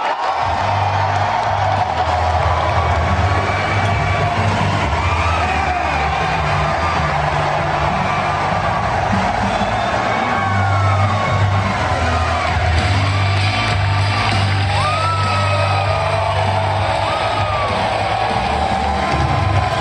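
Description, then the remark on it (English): A large crowd roars and cheers continuously to welcome Alex Jones, with scattered whoops, yells and shouts rising above a dense, steady wall of noise that stays loud for the whole stretch. “And if you're an InfoWars fan, if you've been following the show for a while, you really should have been here to see the crowd welcome Alex.”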